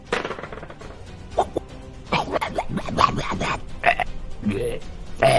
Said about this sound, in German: Rülpst nicht so komisch an mir vorbei, das ist ja eklig.